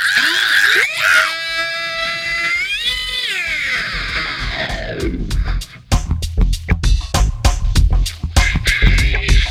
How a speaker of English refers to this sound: Scream one more time. Scream one more time.